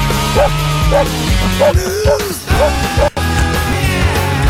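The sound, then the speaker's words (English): A dog barks repeatedly in a steady rhythm, short yelps set against a loud, continuous musical backing with sustained tones, with no talking over it. “Like a dog.”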